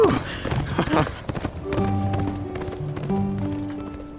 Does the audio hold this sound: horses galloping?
yes